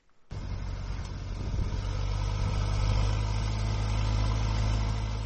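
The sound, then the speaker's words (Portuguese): A tractor engine starts up abruptly and runs steadily with a deep, droning rumble, loud, holding a constant low throb without any voices, as the tractor prepares land ahead of the rainy season in the town of Mucutu, 40 km north of Harare. “Na cidade de Mucutu, situada a 40 km a norte da Harare, um trator prepara a terra em antecipação da estação das chuvas que se aguarda a todo momento.”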